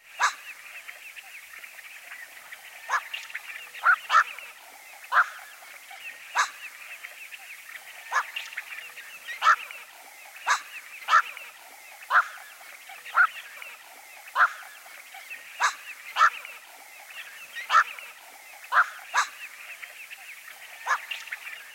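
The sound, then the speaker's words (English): A black-crowned night heron repeats its harsh, barking quawk about twenty times at an uneven pace, each call short and sharp, over a steady background hiss. “One of the folk names of this species is quawk bird, a name which comes from its harsh, barking quawk, quawk.”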